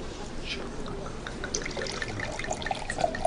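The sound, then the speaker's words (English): Liquid pours steadily into a glass, a continuous gurgling trickle with bright ringing tones that rise as it fills. Faint background murmur sits underneath. “You can pour.”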